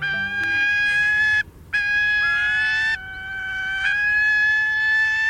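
Gyrfalcon calls: a few long, harsh, wailing cries in quick succession, loud, with only brief pauses between them and no voices present.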